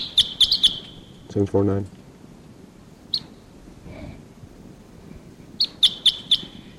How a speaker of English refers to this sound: Sorry, there's perhaps a lone wild bird here at Barfoot Park calling from the trees. It sounds like a type 6. Wild bird here.